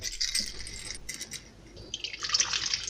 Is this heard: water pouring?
yes